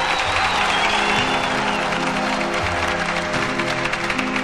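An audience on its feet applauds steadily, a dense wash of many hands clapping that holds at an even, fairly loud level throughout, with a faint tonal hum beneath and no speech.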